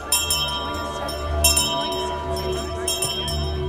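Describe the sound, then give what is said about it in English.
A hand bell rung by a young woman at the front door of an old church house, out to a city street: a few quick, bright clanging bursts, with steady ringing tones lingering between the shakes over a low background hum. “A young lady in a black overcoat opens one of the front doors of their old church house and rings a bell out to a city street.”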